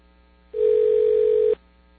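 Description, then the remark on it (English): A single telephone ringback tone sounds over the line: one steady, fairly loud electronic hum lasting about a second, then cutting off into quiet. No one speaks. “It's ringing someplace else.”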